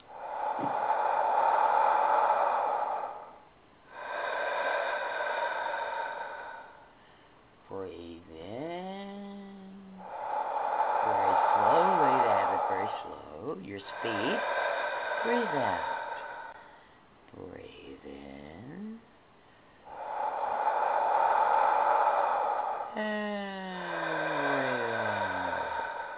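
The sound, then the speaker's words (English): Slow, steady guided breathing cycles from a breath modulation feature for calm and relaxation: long, loud airy breaths repeat roughly every ten seconds, separated by smooth gliding tones that rise and fall in pitch, with no talking. “Of course, we need to know our breathing, and this, they also have a breath modulation. Oh my, this is to assist you to creating a sense of calm and relaxation, your breathing.”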